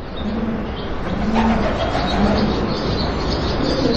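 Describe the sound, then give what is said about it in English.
Pigeons in a gatehouse coo in low, soft repeated phrases over a steady, rushing background noise, with no talking. The sound is continuous rather than punctuated. “And suddenly you'll just hear a pigeon's wing as it flies from one ledge to another in the gatehouse.”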